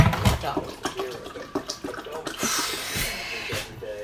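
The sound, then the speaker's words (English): Water pours and splashes steadily from a kettle into a small cup for a few seconds, fairly loud, with the gurgle rising and falling and faint voices murmuring underneath. “I don't get enough bloody water out of this kettle.”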